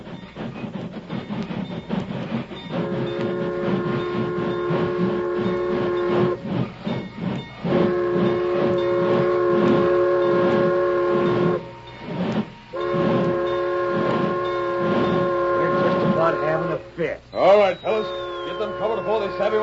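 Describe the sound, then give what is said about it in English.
A steam train approaches and comes to a stop, its whistle sounding in four long, sustained blasts over a steady rumble and hiss of steam, loud throughout. “Keep out of sight, you fellas, till the train stops.”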